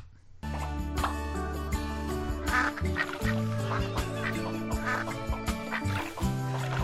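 Loud, busy trailer music for a game in which the player is a rubber duck popping balloons begins after a brief silence, with steady bass and bright layered tones, while repeated duck-like quacks and squeaky hits pop throughout the mix.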